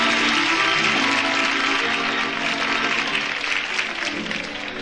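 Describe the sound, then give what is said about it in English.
Sustained applause from a large audience, a dense, steady wash of clapping that stays loud throughout and tapers only slightly near the end, with faint crowd noise mixed in. “Big round of applause”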